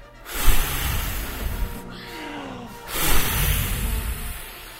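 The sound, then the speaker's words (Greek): A voice imitates a story character taking a deep breath and blowing hard like a whirlwind or ten typhoons, in two long, breathy, hissing gusts separated by a brief pause, loud and rushing with no speech. “Και πράγματι ο Ρούνι Ρούνι, το ύπουλο κακό γουρούνι, πήρε μια βαθιά ανάσα και μετά φύσηξε δυνατά σαν σύφουνας, άγρια σαν ανεμοθύαλα, ορμητικά σαν 10 τυφώνες φύσηξε, κάπως έτσι δηλαδή.”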